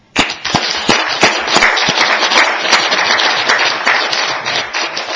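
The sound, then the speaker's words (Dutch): Loud applause from a group, a dense rattle of many hands clapping steadily for several seconds with sharp individual claps standing out, no voices, at a council meeting thanking a member for their service. “Een applaus.”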